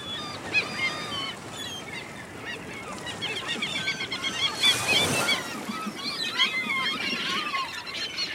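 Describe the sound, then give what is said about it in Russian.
A flock of seagulls circling over the sea cries continuously, many harsh overlapping calls, over a steady rushing background like surf, with one louder whoosh midway. “Красивые, но ужасно крикливые. Это чайки.”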